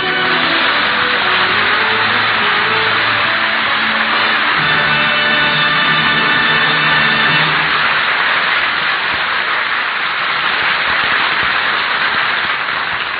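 A car engine revs up, its tone climbing in pitch, then settles into a loud, continuous rushing roar as it drives off toward the old Indian's house. No one speaks.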